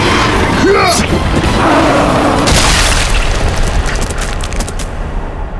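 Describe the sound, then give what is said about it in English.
A loud explosion with a deep rolling boom, a brief high shriek near the start, then crackling debris and rumble that slowly fade over several seconds. “The explosion had severed the massive beast's spinal cord.”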